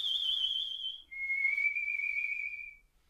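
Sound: person whistling a tune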